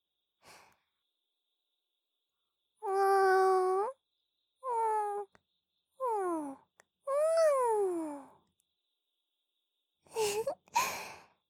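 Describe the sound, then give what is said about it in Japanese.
A voice imitates the meow of Luna, a black cat, giving four drawn-out, tonal mews with gliding pitch, the first long and steady, then falling and rising calls, followed by two short breathy sounds. “同じ鳴き声ですよね。”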